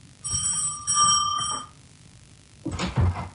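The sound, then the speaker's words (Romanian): A bright bell, rung to call a servant, rings in a quick series of tinkling strokes, holding a steady high pitch for over a second before fading, followed by a short burst of muffled knocking or shuffling. “Domnul a sunat?”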